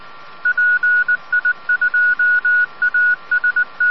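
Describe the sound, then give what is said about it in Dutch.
A rapid string of about twenty short telephone keypad tones, evenly pitched and fairly loud, beeping in quick irregular bursts over a faint background hiss with no voices. “Hij zal aan de telefoon hangen, denk ik, is PA1 omhoog.”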